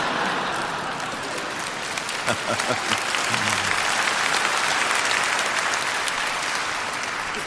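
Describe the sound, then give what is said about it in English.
A crowd applauds steadily for several seconds, a dense, even wash of many hands clapping at a moderate level, with a few brief murmurs of voices underneath. “I think more of you should have clapped on that one.”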